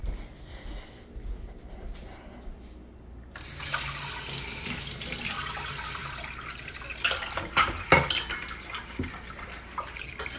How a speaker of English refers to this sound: Don't squirt me with this water. Don't you dare. You're getting it everywhere. This is not how you get a dish done.